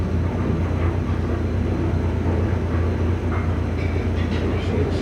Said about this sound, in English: Train's about out of business. Mm-hmm. You can hear one now. There's a brickyard out here, and they haul brick. You can hear it go through mornings and sometimes in the middle of the night. You hear it roar. Yeah, we're not too far from the train.